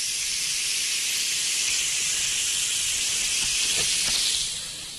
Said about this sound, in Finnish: Täällä kuule kohta paistuu hyvät ja loistavat, hyvällä ainakin näyttää tässä vaiheessa nuo possun pihvit ja tirahtaa.